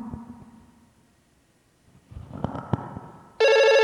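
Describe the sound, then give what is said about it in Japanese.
A telephone at a special investigation unit office suddenly starts ringing loudly, a bright buzzing electronic ring that cuts in at the end after a stretch of quiet knocks and clattering. “お電話だ。”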